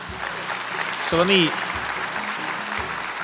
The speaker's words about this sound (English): You've got a lot of people in this crowd cheering for you when you say that. I paid for 50% of them.